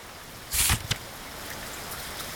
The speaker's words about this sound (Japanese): 森の雨音。